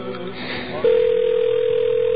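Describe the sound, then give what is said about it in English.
A steady telephone line tone, heard when calling a phone number that now just rings and is never answered, cuts in abruptly after a moment of faint murmuring, then holds as one loud, unbroken hum through to the end. “That's the sound that you get now if you call our telephone number.”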